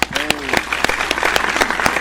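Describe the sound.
Audience applause welcoming an urban music composer and producer, a steady patter of many hands clapping at a fairly even level, with a brief voiced cheer or shout rising over the clapping near the start.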